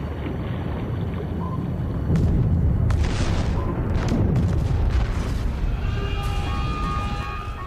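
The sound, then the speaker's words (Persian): A deep, continuous rumbling roar with heavy booming impacts and sharp cracks midway, then high metallic groans and creaks near the end, as a submarine hull strains and breaks apart underwater, its aft section destroyed and engine room breaking apart. “بخش انتهایی تخریب شده، موتورخونه داره پار میشه.”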